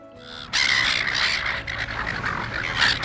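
A noisy flock of seagulls, of the kind that pester beachgoers in Australia, squawking and crying over one another, loud, bursting in after a brief quiet start and continuing without pause.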